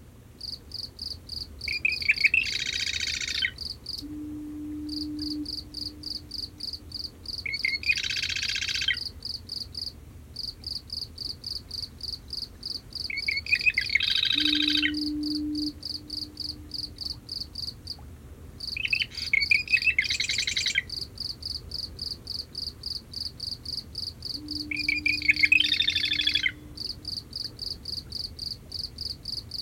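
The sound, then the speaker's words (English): At night, a marsh wren sings from cattails at the edge of a salt marsh in short, reedy gurgling bursts about every five or six seconds over a steady, pulsing cricket chorus, while a faint low foghorn sounds three times in the distance. “The marsh wren's song is reedy and gurgling, often ending with a grating chatter.”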